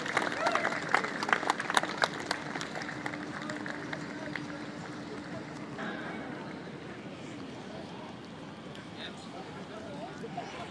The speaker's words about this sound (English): Give this lovely couple a round of applause, sir.